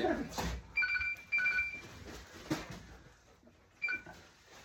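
telephone ringing

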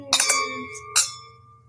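wine glasses clinking

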